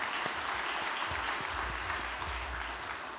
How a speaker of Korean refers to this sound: 은혜로운 효정 간증을 해주심에 감사드립니다. 다시 한번 경례의 큰 박수 올려주시면 감사드리겠습니다.